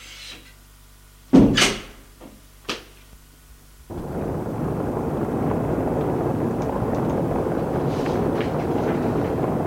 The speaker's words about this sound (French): Frappe à une porte. Entrez. Il entre et ferme la porte.